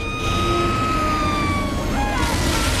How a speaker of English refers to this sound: In the distance, he spots a fire engine racing towards the fairground.